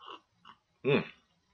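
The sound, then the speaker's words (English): A sip of hot coffee: two soft little slurps, then one louder, noisy slurp with a brief whistling tone, followed by quiet. “I like the sound of it. Just the sound of that coffee.”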